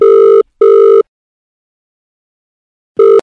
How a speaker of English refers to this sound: Okay, dialing. There we go.